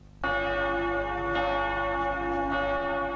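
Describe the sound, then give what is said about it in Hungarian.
A church bell rings out at noon, loud and sustained, its rich harmonic tone swelling in suddenly and droning steadily with overlapping strikes, heard clearly with no voices. “A déli harangszóval egy időben mintegy 80 fekete ruhába öltözött asszony vonult a parlament elé a Szabadság tér érintésével.”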